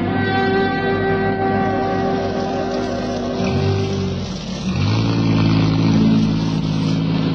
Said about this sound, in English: I'll pull the utility in alongside of your car, so you won't have far to walk in this rain.